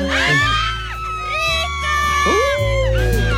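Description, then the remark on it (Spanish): A television studio audience shouts and cheers together, a dense wash of overlapping high-pitched voices and whoops that stays loud throughout, with no single speaker standing out. “¿Miren lo que le grita a la gente?”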